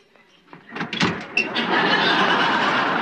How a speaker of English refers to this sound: Damn, another door.